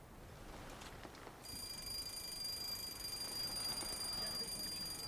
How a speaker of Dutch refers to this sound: Sorry, but why do we have an alarm go off every morning at 10 o'clock? Is it for a changing of the guard? Oh, no. No, it's just that my aide-de-camp used to have coffee every morning at 10 with his mother.